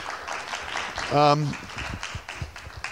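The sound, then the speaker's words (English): An audience applauds the panelists at the end of a panel discussion with a steady, dense crackle of clapping that lasts throughout, while a single voice briefly rings out above it partway through. “So maybe a round of applause for our panelists.”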